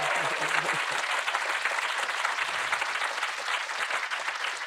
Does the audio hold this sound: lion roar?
no